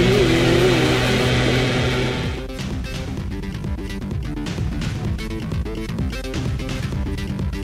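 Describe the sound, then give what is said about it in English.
A leaf blower runs with a loud, steady engine roar and droning whine for about two seconds, then gives way to a denser, choppier, pulsing noise. No one speaks. “We're going to entertain ourselves with this leaf blower”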